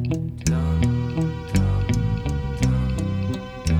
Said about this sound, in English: His grandfather clock strikes the hour of 12.